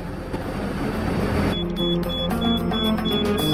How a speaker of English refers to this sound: Meanwhile, a mile away, the timer in the gas can ticks past the hour, making a red light flash.